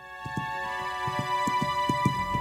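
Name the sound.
horse hooves clip-clopping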